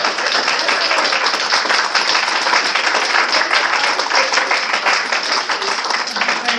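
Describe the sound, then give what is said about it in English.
Sustained applause from an audience for a teacher of a children's reading program, dense and steady clapping at a loud, even level throughout with no pauses or talking. “I think we should really give a round of applause to her”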